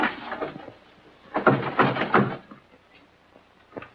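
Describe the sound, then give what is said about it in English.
The handle of a locked lounge door is rattled and jiggled in a few rough bursts by someone trying to get in to clean the lounge, with a cluster of knocking clatters in the middle as the door refuses to open, then a final single clunk. “I'm trying to clean the lounge, sir, but the door's stuck.”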